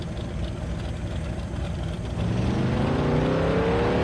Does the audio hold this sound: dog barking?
no